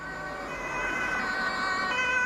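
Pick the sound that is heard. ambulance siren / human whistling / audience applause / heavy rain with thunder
ambulance siren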